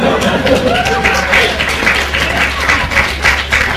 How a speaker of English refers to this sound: You applaud me, but this is actually a little awkward because I actually stole this phone book ripping gag from my mentor.